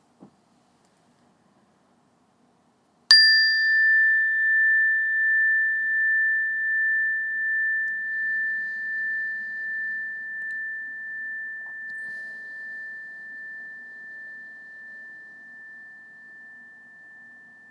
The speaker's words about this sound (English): And when you hear the sound of the bell, just start off by taking a few breaths in and a few breaths out like we normally do and wait for further meditation instructions.